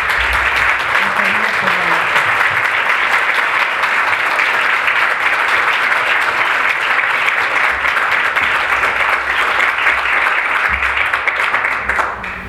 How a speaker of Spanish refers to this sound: Y les pido a ustedes que le demos un abrazo y un aplauso.